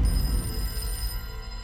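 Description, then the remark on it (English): An old-fashioned telephone bell rings for a second time, at 10:41 a.m., with a bright, metallic, steady jangle that holds for about a second before fading, over a low rumbling background with no one speaking. “But at 10:41 a.m., the phone rang for a second time.”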